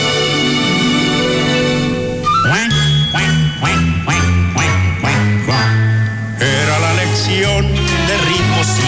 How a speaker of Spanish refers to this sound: Allá en la laguna cantaban los patos.